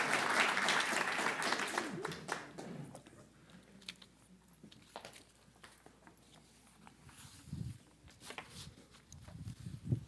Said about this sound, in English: Thank you for being part of our family. Let's give these folks a little round of applause and a welcome. Y'all can go on back to your seats.